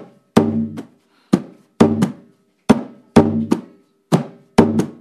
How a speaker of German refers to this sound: Trommel Nummer zwei ist der Piano. Piano wie Klavier. Das ist die Basstrommel. Sie bildet mit dem Chico den Grundrhythmus des Candombes. Es hört sich ungefähr so an.